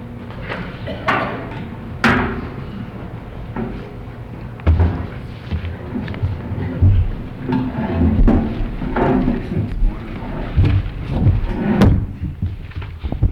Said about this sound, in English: Let's just pull another chair up there.